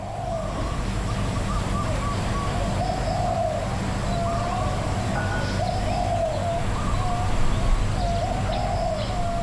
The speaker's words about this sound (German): Eine Insel mit mehr als 4 Millionen Einwohnern und Zehntausenden Besuchenden. Und an diesem einen Tag hört man nur den Wind, Vögel und das Rascheln der Palmen.